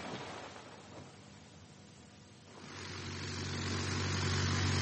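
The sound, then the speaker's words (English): A small plane's engine drones steadily, then grows louder and fuller partway through, its low, even hum strengthening as it circles the field and comes in to land. No voices are heard. “He'll do a circuit of the field, and next thing you know, he'll be setting that plane right down here beside us.”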